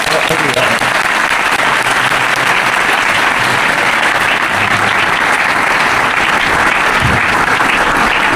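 Sustained, loud applause from a large audience, a dense steady wash of many hands clapping that fills the whole stretch without letting up.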